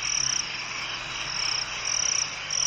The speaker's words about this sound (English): Can't recognise any other creatures other than the chirruping of crickets.